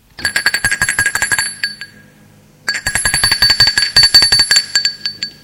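A doorbell at the front door of a home rings in two bursts of rapid, buzzing metallic strikes, each lasting about two seconds with a short pause between. The tone is bright and high, fairly loud, and there is no talking.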